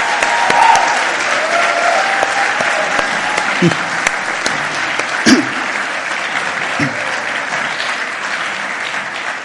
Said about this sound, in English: But before I get started, why don't we even give a clap for our kids one more time for the awesome job of the day.